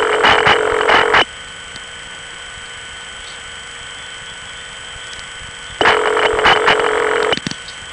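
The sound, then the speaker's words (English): Two quick bursts of telephone dialing tones, rapid beeping sequences, separated by several seconds of quiet phone line carrying a faint steady hum, while calling a non-working number through Kingston Inward. No one speaks. “Let's try calling that non-working number through Kingston Inward.”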